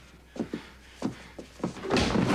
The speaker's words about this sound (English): A heavyset black man rushes Easy from the porch. Easy rams him against the doorframe, and they tumble in through the door.